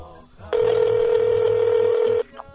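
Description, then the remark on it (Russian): A telephone line ringing during a phone call to the organizer of a missionary trip to Malawi: one long, steady electronic ring tone lasting under two seconds, fairly loud and clear, with brief bits of speech just before and after it. “Я связался с ним по телефону.”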